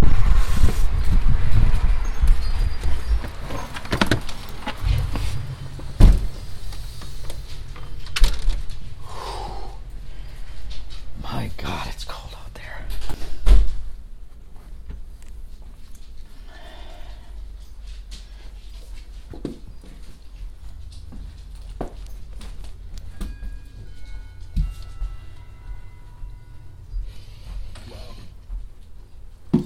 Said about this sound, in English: Well, that weather statement you heard was for our gale force winds, which are awful, as you heard.